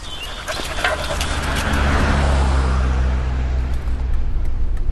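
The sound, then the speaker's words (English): Steady low rumble of a car driving along a road, with a broad wash of tire and engine noise that swells slightly in the middle; faint bird chirps come through near the start. “After breakfast, we're back on the road.”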